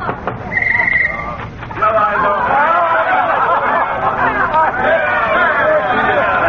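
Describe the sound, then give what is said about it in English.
A noisy party thrown by an old man: many voices chattering and laughing at once in a dense, continuous babble, with occasional chuckles and a brief high tone rising above the din. “Oh, sounds like the old duffer's throwing a wing-ding in there.”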